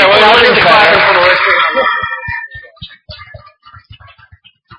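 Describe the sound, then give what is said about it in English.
An audience, asked to clap, breaks into loud, dense applause mixed with some crowd voices, which quickly fades into a few scattered, isolated claps. “Not everybody claps.”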